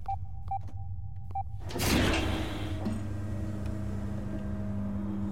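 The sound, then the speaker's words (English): A few short electronic beeps over a low hum, then a large heavy metal door with a control panel beside it grinds and rumbles as it slides open, lights coming on, leaving a steady mechanical drone with a sustained tonal whine. “As the door slid open, lights illuminated a large figure.”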